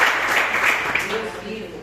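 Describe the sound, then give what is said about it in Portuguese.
An audience at a church service claps for the Lord in a steady, dense wash of applause that holds at an even loudness for a couple of seconds, with faint voices mixed in underneath. “Que Deus nos abençoe, eu agradeço a oportunidade e as palmas pelo Senhor.”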